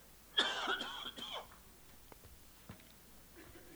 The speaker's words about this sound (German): Mein Husten war schon mal aromatischer, ne? Irgendwie melodischer so. Aber das wird sicher gleich wieder besser werden.